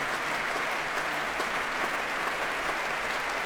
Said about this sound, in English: Alexei Tanovitsky is in fact a member of the Mariinsky Company, and he's applauding his colleagues in the chorus, and well, they're applauding back.